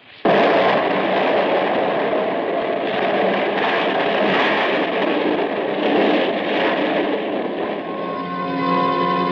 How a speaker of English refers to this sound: That explosion had ripped Tony's spaceship open, blew me out through a rip in the wall, and as I lay dazed on the ground, I saw the Thonian spaceship go spinning wildly around up into the sky and out into space